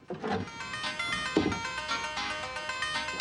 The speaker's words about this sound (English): The ringtone's coming from inside the piano in Ted's flat.